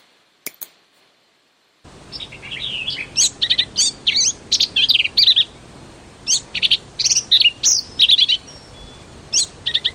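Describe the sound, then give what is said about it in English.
A black-capped vireo sings rapid, complex bursts of high chirps and buzzy warbles in repeated short phrases, clear, played at normal speed, after a brief silent lead-in with a faint click. “Oh, we'll do the black-capped vireo first. So this is normal speed.”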